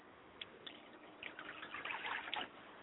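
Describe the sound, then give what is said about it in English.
Faint trickling and light splashing of water poured as a libation to Yamanja, starting with a few soft drips and growing into a steadier dribble before trailing off, with no voices. “I'd like to pour libation to Yamanja, my mother's spirit, on Clara Jenkins' side, and I say Ashe.”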